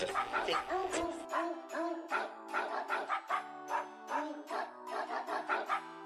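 A dog yips and howls in a quick, rhythmic run of pitched, tuneful notes, like a dog singing a melody, playing from an old radio, with no one talking.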